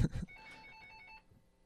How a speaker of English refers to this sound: And a phone just started ringing in the middle of that.